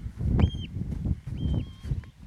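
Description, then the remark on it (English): A bird on the moors gives two drawn-out, high whistling calls, one early and one a second later, set against a steady low rumble like wind in open country. “Oh, just plants you straight in the moors, that sound.”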